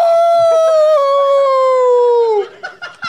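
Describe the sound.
A person imitates a howl, a loud sustained wavering tone that slowly drops in pitch for about two and a half seconds before breaking off into brief murmurs.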